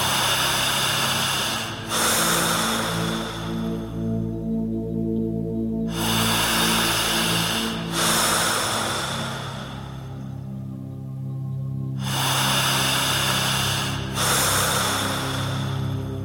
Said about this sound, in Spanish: En tercer lugar, usted tendrá que respirar todo el tiempo de esta manera.